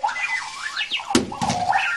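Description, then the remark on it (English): Chirpy electronic alarm beeps from a wheeled Clocky alarm clock warble up and down, broken midway by a single solid thump as the clock rolls off a nightstand onto the floor, then the beeping carries on as it wiggles around a bedroom. No one speaks. “That thump you just heard was Clocky rolling off a nightstand and then wiggling its way around a bedroom.”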